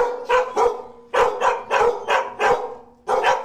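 Dogs of all kinds, big and small, in a dozen or so fenced-in outdoor cages at an animal shelter bark loudly in quick bursts, about eight sharp barks in uneven pairs and clusters with brief pauses between. No one speaks.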